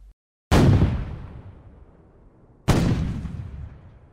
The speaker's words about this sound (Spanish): El castillo ya no es sitio seguro. Están disparando con grandes cañones y estos altos muros se vienen abajo.